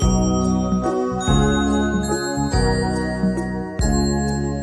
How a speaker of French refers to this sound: Ding, ding, les cloches dong, dong, dong. Tâtez les clochettes.